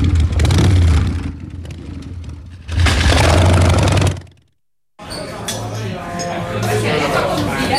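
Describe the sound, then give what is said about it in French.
A motorcycle struggling to start: its engine sputters and strains in repeated bursts, cutting out briefly before trying again with a rough, uneven rumble, loud with some clattering. “La moto a du mal à démarrer là aujourd'hui.”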